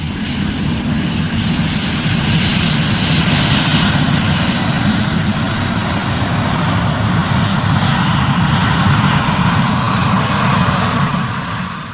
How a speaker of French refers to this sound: Aéroport de Roissy-Charles de Gaulle. Sur les pistes, le balai incessant des avions que les passagers pourront sans doute bientôt rejoindre dans ces véhicules d'un nouveau genre.